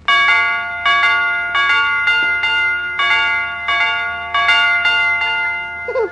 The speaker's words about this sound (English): Will you, Mr. McGee, will you come over to our house and fix our doorbell so it goes dee dee, dee dee, dee dee